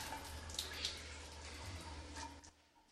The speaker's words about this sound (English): Later, Hannibal takes a shower.